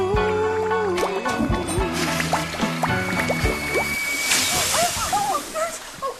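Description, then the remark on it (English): A toilet flushes with a rushing, gurgling swirl of water, partly masked by louder tonal sounds and voices over the roughly six seconds. “Burns! Flush warning next time!”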